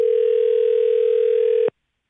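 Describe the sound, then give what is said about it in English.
A single steady electronic ringing tone on a phone line, loud and even for just under two seconds before cutting off abruptly. No voices. “You better answer.”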